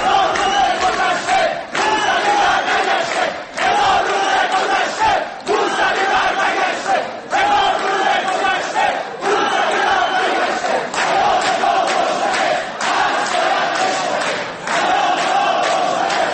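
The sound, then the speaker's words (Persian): A large crowd of students at a university of medical sciences chants slogans in loud, rhythmic unison during a speech by Sheikh Hassan, saying a thousand days have passed, Mousavi has not returned, and his house arrest must break; phrases repeat roughly every two seconds with brief gaps, filling the whole recording. “در اواسط صحبت‌های شیخ حسن یه تعدادی از دانشجویان تصمیم گرفتن که یه سری از مسائل رو به ایشون اینطوری که الان میشنوین یادآوری کنن و بگن که هزار روز گذشته موسوی بر نگشته، پیام ما روشنه، حصر باید بشکنه.”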